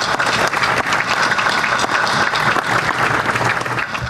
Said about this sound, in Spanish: Esto no hubiese sido posible si no es por nuestro Ejército Nacional, a quien yo quiero pedirle un gran aplauso por convicción.